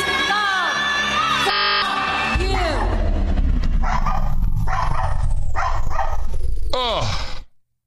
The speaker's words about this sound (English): Where's that dog keep coming from? The alternate universe. Obviously.